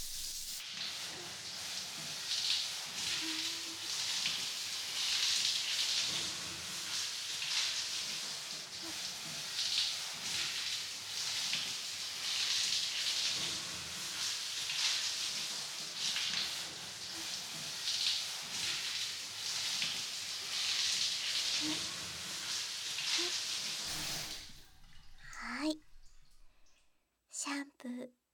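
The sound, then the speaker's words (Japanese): Steady, hissing rush of running water pours over hair for about twenty-four seconds while rinsing the head during a shampoo, with faint splashy fluctuations, then cuts off, leaving a few soft drips and clicks. “はい、では頭流しますよ。”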